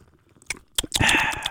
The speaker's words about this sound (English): But then I'm going to sip this bubbly, though, too. Oh, we got to let them hear it.